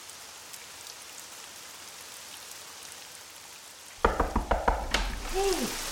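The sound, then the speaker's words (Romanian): Steady, soft rain hisses for several seconds, then the patter grows louder and closer, punctuated by a run of sharp knocking clatters and a brief creaking squeal. “pe ploaia asta?”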